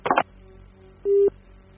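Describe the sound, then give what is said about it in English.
A telephone handset is set down with a brief clattering clunk, followed by quiet and then a single short, steady electronic tone from the line. No one speaks. “I put the phone down.”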